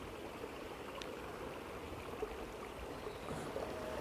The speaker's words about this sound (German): Genieße jetzt dann noch ein bisschen das Plätschern von dem kleinen Bach und die Ruhe.